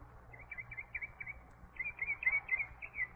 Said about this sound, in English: There goes the bugler. He wakes all the other birds up.